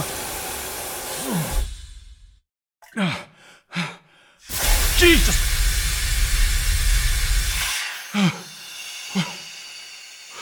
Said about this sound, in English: Daniel opened his mouth to protest, and then hurriedly shut it again as boiling hot steam hit him from all sides at once. His skin blushed bright pink at the sudden heat, and sweat poured off him, running down his limbs and dripping from his face.